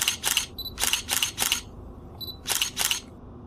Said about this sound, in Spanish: Sí, tiene razón. Vamos, chicas, tomemos unas fotografías.